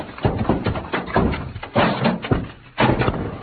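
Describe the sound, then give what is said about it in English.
Stacked heavy packing cases, bumped by Pancho, topple over and fall on him in a series of heavy wooden thuds and bangs, five or so irregular crashes tumbling one after another over a few seconds. “Santos, those cases hit Pancho and knocked him out.”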